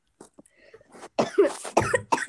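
A person coughs and sputters after choking on an organic lassi drink: a few faint, wheezy breaths, then a burst of harsh, loud coughs in quick succession, rough and throaty.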